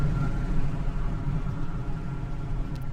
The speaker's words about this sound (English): And as you can probably tell by the road noise, that the traffic jam is cleared up and I'm almost to work.